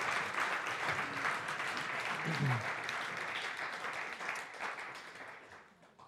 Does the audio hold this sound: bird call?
no